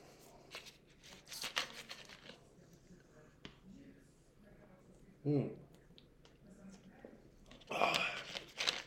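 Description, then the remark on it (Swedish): Quiet sipping of julmust soda: small clicks and mouth noises, a short gulp midway, then a breathy exhale of satisfaction near the end. “Och för att inleda det hela så tar vi oss en klunk julmust.”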